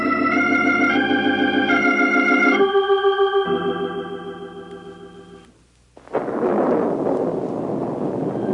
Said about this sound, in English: The storm got worse. The rain pounded, the thunder stampeded, and the lightning galloped across the blackened sky.